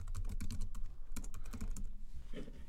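Rapid, uneven clicking of computer keys as someone types a Google search for "Spider-Noir" on a keyboard, a burst of sharp taps with brief pauses between, fairly quiet and steady without any voices.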